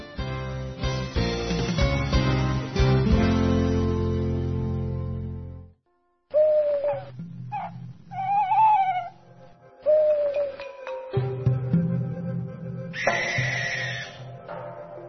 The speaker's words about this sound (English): A bird's cry fills the night air. It is a sound that local people know well, and it fills them with fear. It belongs to an owl.